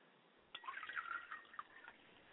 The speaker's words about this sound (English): And as we pour water to the ground, we sanctify this area, sanctifying it, that it is set aside, separate, as we are to be from the world.